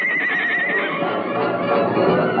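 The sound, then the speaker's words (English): A white stallion neighs loudly in the moonlight, answering its master's call, a long shrill whinny with a wavering pitch that holds for about two seconds, with no voices over it. “Like an arrow seeking its target, the great stallion answered his master's call.”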